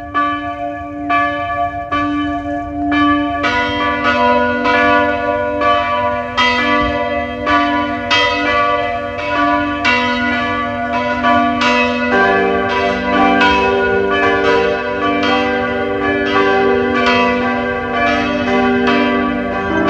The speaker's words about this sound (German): Es ist 12 Uhr. Sie hören die Glocken der Pfarrkirche Hollenstein an der Ips, Niederösterreich.